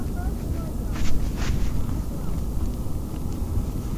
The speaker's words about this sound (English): And here comes the train now. Can't see which one it is. It says mineral on it, so I think that's going sea line. Yep. Oh, these are one of their newer trains.